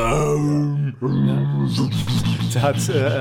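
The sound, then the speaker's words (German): A voice imitates a deep, blaring Hans Zimmer-style movie horn, burped into the microphone: a long, loud, low droning blast, a brief break, then a second rougher, buzzing blast that wavers before ending. “Hans Zimmer ins Mikro gerülpst.”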